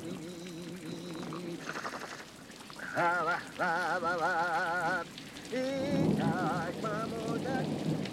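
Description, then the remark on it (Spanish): A heavy downpour of rain hisses steadily throughout, fairly loud, while wavering, warbling tonal calls rise over it in bursts. “Un buen día que llovía a cántaros,”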